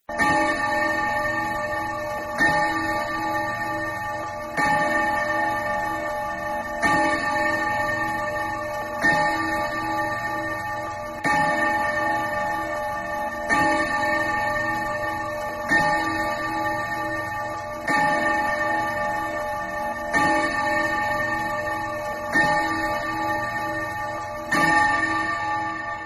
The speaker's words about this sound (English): The clock struck 12.